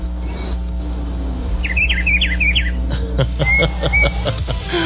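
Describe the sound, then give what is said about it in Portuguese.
A rufous-browed peppershrike (pitiguari) sings a quick series of clear, warbling whistled notes outdoors in the countryside, over a steady low hum and some clattering background noise. “Esse é o Pitiguari. Deixa eu ouvir ele aí.”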